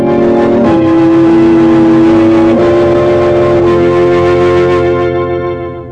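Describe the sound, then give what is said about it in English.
A car engine rumbles loudly, its pitch stepping up as it accelerates away, then the sound starts to fade near the end. No voices. “Load the rest in the car.”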